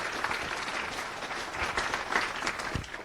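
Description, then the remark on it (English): Steady applause from an audience at FOSDEM welcoming a speaker, a dense patter of many hands clapping at once, sustained and fairly loud for a few seconds without any voices. “let's give a round of applause to Jos”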